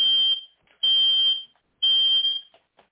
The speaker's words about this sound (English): I'm just trying to figure out how to shut off my fire alarm. It's like the biggest April Fool's joke ever going on during my radio show. Hopefully it is done.